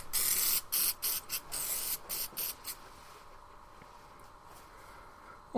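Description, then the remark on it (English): An aerosol can sprays in a series of short hissing bursts, a longer blast first and then about seven quick puffs, fairly loud, before fading into quiet. The spray is being given to a man, with cameras and people present. “Oh, well, get my bloody kegs off, Colin, and give me a spray.”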